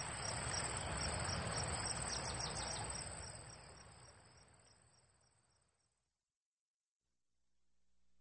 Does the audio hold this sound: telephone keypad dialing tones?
no